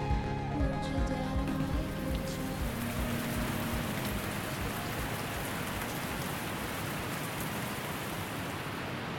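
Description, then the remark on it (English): Heavy rain pours down in a dense, steady roar that stays loud throughout, during the worst storm in 20 years, with rising water and howling wind at a campsite on a low-lying gravel bar, while a faint sustained tonal hum fades out during the first few seconds. No one speaks. “The water is rising, the wind is howling. It's the worst storm in 20 years, and a group of gimps and wheelies are right smack in the middle of it.”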